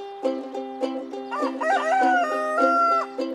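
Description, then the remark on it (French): A rooster crows once in a long, wavering call, layered over a steady, rhythmic musical backing with regular plucked beats and no talking. “Monsieur coq, dès le matin, quand le jour se lève, il réveille ses voisins, il n'a plus sommeil. Cocorico, cocorico, allez, levez-vous.”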